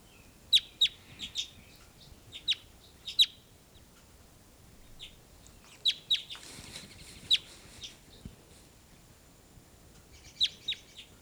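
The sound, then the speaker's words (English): Loud, sharp bird calls played back from a recording ring out in short clusters of two or three high chirps, repeating at uneven intervals over a faint, low background hum with no talking. “Just played her back, and here's your louder calls.”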